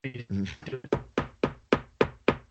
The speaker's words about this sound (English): That is me officially knocking on wood